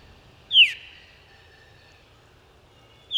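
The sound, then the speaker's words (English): A veery sings a clear, fluting phrase that spirals downward in pitch, followed by a long quiet pause before the next phrase begins at the very end, heard alone over faint background hiss. “When birds like this veery fly through populated areas at night, buildings with lights on can cause them to become disoriented.”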